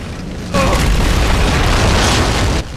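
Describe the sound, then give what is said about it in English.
A loud explosion bursts in suddenly, erupting from a cave entrance after a flaming arrow is shot into the cave, then roars as a sustained, rumbling blast for about two seconds before cutting off abruptly. “As Gisborne turns and runs for his life, he's blown off his feet by an almighty explosion which erupts from the entrance.”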